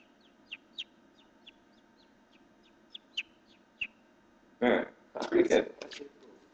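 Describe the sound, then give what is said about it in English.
A person imitates a bird call with a string of short, high chirps at uneven intervals, close to the microphone, then loud bursts of voices break in at the end. “Closest I can come to that is impersonating a bird. Wow, I actually thought that was a bird.”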